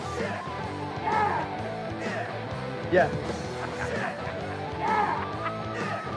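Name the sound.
person imitating a chicken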